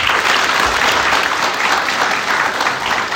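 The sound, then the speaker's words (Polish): An audience claps steadily for a person being introduced who could not attend, a dense, even wash of applause holding at a constant loudness for the whole few seconds, with no voices standing out. “Niestety z przyczyn niezależnych Jarek nie mógł się do nas dotrzeć, ale myślę, że brawa mu się należą.”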